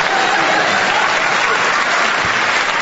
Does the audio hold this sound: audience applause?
yes